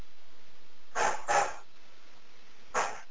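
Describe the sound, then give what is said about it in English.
A dog barks three times: two quick barks close together, a pause, then one more. The barks are moderately loud, with no talking. “I don't understand dog, but I don't know if there's a question or not.”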